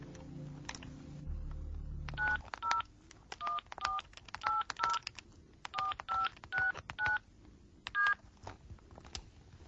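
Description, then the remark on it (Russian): A mobile phone keypad beeps out a number: about ten short dual-tone presses in quick, slightly uneven succession, clear. A brief low rumble of handling noise comes just before the dialing. “Хорошо, что есть мобильный телефон.”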